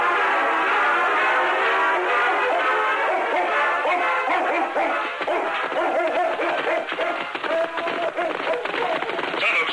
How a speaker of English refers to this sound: Listen, I tell you, I hear something. What in thunder? Ain't that a hound dog?